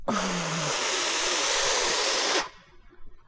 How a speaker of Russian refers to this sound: Тут он вдруг обнаружил, что от волнения уже давно не дышит, и выпустил воздух с такой силой, будто он не ослик, а паровоз.